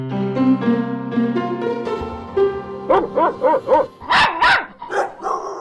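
A short stretch of sustained musical tones gives way to a run of loud dog barks, about half a dozen sharp yaps in quick rhythmic succession with a few higher yelps at the end, linked to the 140th annual Westminster Dog Show at Madison Square Garden, New York City.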